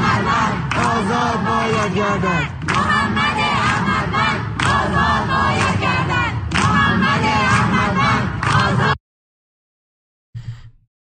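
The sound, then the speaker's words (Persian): A large crowd of protesting students in Shiraz chants slogans in loud, rhythmic unison for about nine seconds, with repeated shouted phrases and occasional thumps. It then cuts to silence, broken by one brief burst of sound near the end. “امروز در شیراز اعتراضات دانشجویان در شیراز بوده.”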